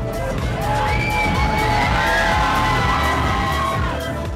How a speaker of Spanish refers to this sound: De repente, un grito ensordecedor llena el local. Dos de los chicos que actúan se han dado un beso. La multitud clama.